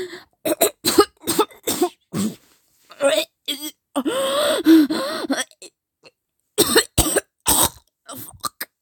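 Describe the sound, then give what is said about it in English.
A run of sharp coughs and gasping breaths in irregular bursts, with a strained, voiced moan in the middle and more harsh coughing toward the end. “Of course I'm going to cough when you face fuck like that.”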